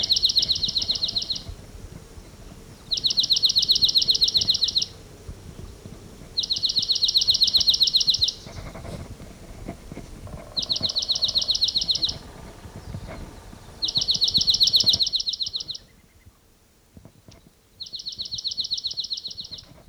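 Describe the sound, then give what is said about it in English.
A field recording of a bird, catalogued as collector number 597, sings six rapid, high-pitched trills, each lasting under two seconds and separated by brief pauses, over a faint low rumble, with no voices. “I mean, it's a recording that I just collected that bird.”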